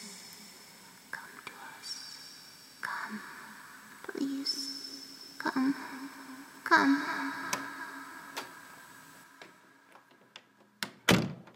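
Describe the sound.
A door creaks and thumps open and shut, with a few soft knocks along the way and a sharp closing clunk near the end, while faint whispering voices murmur underneath.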